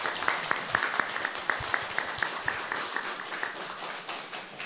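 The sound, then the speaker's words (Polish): A crowd applauds the parish priest and the community at a Radio Maryja family Christmas wafer gathering, with dense overlapping claps and sharp individual hand claps popping out irregularly, sustained at an even level for several seconds without speech. “Brawa dla księdza proboszcza i dla wspólnoty.”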